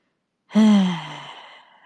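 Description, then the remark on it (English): A voice imitates heavy, out-of-breath breathing with one loud, groaning exhale that starts abruptly, falls in pitch and trails off into a softer breathy rush. There is no speech around it. “What if I like ran super far and then I'm just running out of breath?”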